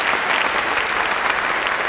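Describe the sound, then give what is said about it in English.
An audience applauds after a snowflake dance as snow falls from the rafters, a dense, steady wash of many hands clapping at an even, fairly loud level throughout, with no voices rising above it. “The audience applauds,”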